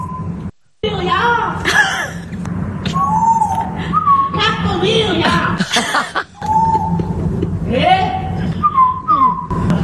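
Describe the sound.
A parrot mimics an elderly woman's voice, calling people to eat by repeating the question "¿Has comido ya?" ("Have you eaten yet?") in a wavering, high-pitched, somewhat annoyed tone, with whistly squawks and chuckling sounds mixed in over a steady low hum.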